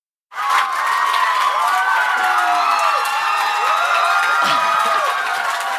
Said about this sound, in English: Let's just come back to this applause.